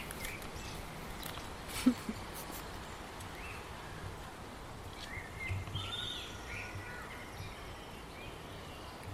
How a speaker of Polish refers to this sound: chyba się nagrywają ptaki, bo trochę się rozćwierkały.